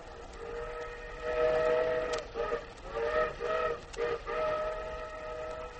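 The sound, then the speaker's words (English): A train whistle blows in long sustained, harmonic blasts with brief breaks between them, over the steady rumble and clatter of a moving train passing green fields, loud, with no voices. “Tommy Williams' eyes were filled with the sight of green fields flashing by the train window”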